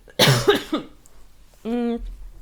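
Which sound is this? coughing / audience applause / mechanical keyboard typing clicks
coughing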